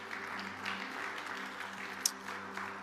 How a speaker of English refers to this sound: Can we just give the Lord a clap offering of praise for that?